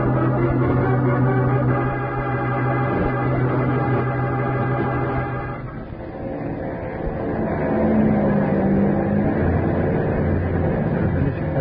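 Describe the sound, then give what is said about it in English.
A propeller airplane engine drones loudly and steadily as the plane comes down to land on a landing strip, its low humming tone shifting slightly partway through, with no voices over it. “Hope this plane isn't too big for the landing strip.”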